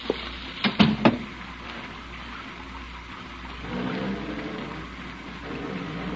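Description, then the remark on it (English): Steady rain hisses across the whole clip, with a few sharp knocks and thumps near the start and a low rumbling swell midway. “Well, I think you better get out of the rain.”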